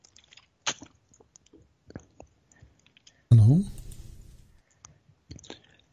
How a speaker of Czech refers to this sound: Já se omlouvám, se občas musím napít, protože když mluvím dlouhodobě, což asi teda posluchači a diváci slyší.